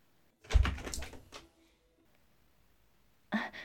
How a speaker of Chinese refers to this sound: 好，我们快去开门迎接吧。